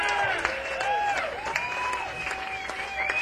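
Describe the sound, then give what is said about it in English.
Audience applause at a live music show for the bass vocalist during band introductions, with steady crackly clapping throughout, under sustained instrumental tones that bend and glide in pitch; no clear speech. “Give a nice round of applause, man.”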